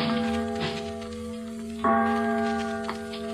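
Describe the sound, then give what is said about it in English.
A large, deep bell rings with a sustained, humming tone, then is struck again loudly partway through, its rich overtones swelling and lingering without any voices. “And the voice of a great bell proclaiming liberty.”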